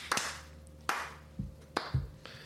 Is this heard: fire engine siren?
no